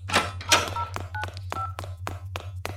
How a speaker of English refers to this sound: Phoning for a taxi so I can make an escape.